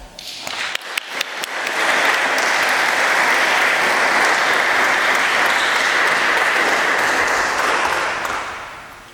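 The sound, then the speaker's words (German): An audience at a church service breaks into applause, starting with a few scattered claps that quickly swell into steady, dense clapping for several seconds before tapering off at the end. “Ich denke, das ist doch ein Applaus wert.”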